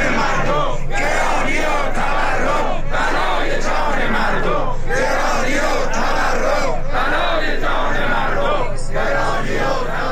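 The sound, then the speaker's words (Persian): A large crowd of Social Security Organization retirees at a rally in Iran chants loudly in unison, protesting their living conditions, shouting a slogan in repeated phrases about two seconds apart, with brief pauses between each chant and a steady roar of voices throughout. “بازنشستگان سازمان تأمین اجتماعی روز یکشنبه در اعتراض به شرایط معیشتی خود در تهران در مقابل مجلس و چندین شهر دیگر در مقابل استانداری ها تجمع کردند.”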